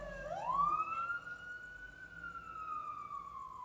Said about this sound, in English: There goes the police car, the nightly police sirens. Ah! It's a fire truck too. How fun.